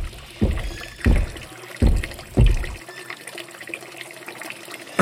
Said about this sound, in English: Excuse me, brother, but it seems that you've been hogging the water fountain for quite some time, brother. Oh, sorry about that. I just gotta finish filling up my hydro flask.